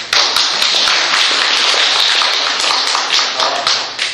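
An audience applauds together, a dense, steady wash of many hands clapping with sharp individual claps popping through, sustained and loud for the whole stretch with no talking.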